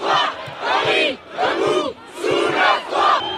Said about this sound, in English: Well, the scene yesterday in the National Assembly, the lower house of parliament, was chaotic. Deputies yelling, banging on desks. Take a listen here.